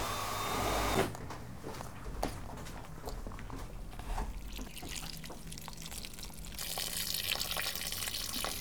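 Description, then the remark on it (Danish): Water runs from a tap in a steady hiss for watering plants, breaking off briefly into scattered drips and light clatter before flowing strongly again near the end; no one speaks. “I løbet af dagen skal hun blandt andet støvsuge, vande planter og sætte service på plads.”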